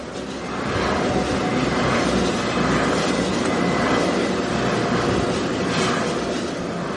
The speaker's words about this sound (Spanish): Aunque lo que llama la atención es el sonido de los aerogeneradores, que están llenando las crestas de estas montañas y muchas otras de nuestro país y que no dejan de zumbar.